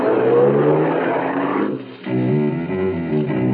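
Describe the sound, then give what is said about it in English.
A small sedan's engine revs up, dips briefly, then picks up again with a steady, throaty hum as the car drives off from a big supermarket parking lot. No one speaks. “I found a small, inconspicuous sedan with its keys tucked in the sun visor above the wheel. I got in and drove off.”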